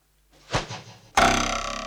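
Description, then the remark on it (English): A spear thuds hard into a wooden door with a short, dull impact, followed moments later by a sudden loud, harsh burst of noise that slowly fades out. “This spear should ensure that nobody is listening at the door.”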